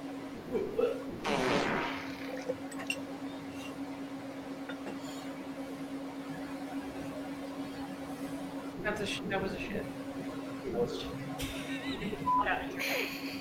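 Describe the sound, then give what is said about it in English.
A short, raspy fart burst in a played video clip near the start, over a steady electrical hum, followed by quieter rustling and muffled vocal sounds later on. “It was just a fart, dry as a bone.”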